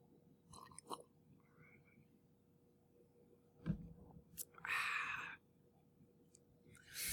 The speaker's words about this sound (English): I went out and got some Devil's Cut Jim Beam specifically for this podcast. So I'm going to get me a sip.